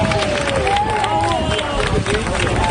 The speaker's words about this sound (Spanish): Otra pareja fue rescatada por los bomberos desde su terraza, acercados por las llamas. Una operación muy arriesgada que acabó con éxito y entre los aplausos de la gente.